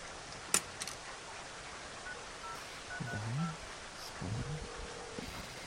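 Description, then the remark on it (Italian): A sharp click, then a few short electronic keypad beeps in two clusters as a phone is dialed in a phone booth, with a steady hiss of heavy rain underneath. “Una cabina. Ecco.”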